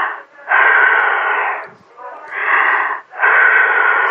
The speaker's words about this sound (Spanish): Por favor, respire fuerte.